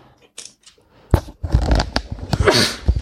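Two sneezes in a row: a sharp, sudden burst of breathy noise, then a longer, louder explosive sneeze with hissing and rustling, after a quiet start.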